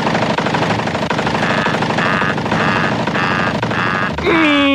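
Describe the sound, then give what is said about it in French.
A submachine gun is fired inside an aircraft cockpit: a long, loud, unbroken burst of rapid shots for about four seconds, then it cuts off into a rising, high whining tone. No one speaks. “Oui, c'est bien un pistolet mitrailleur, mais ce n'est en aucun cas destiné à vous faire du mal, croyez-moi.”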